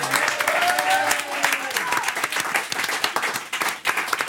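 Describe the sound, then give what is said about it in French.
An audience bursts into sustained applause for Riyad Satouf, a dense, steady wash of many hands clapping at once, with brief cheering tones early on and a few voices mixed in. “Applaudissements pour Riyad Satouf.”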